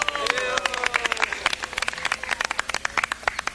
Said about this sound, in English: And all the Sakhis were clapping like this.